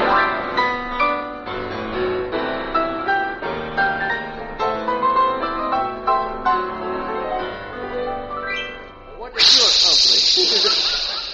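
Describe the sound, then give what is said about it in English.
Orchestral music plays, then cuts off abruptly as a loud, steady hissing jet of moisture, standing for the moisturized Raleigh 903 cigarette in a radio advertisement, bursts out and sprays continuously to the end, bright and airy like escaping steam. “That jet of fresh, pure moisture stands for the new freshness, new taste, and the new, different moisturized Raleigh 903.”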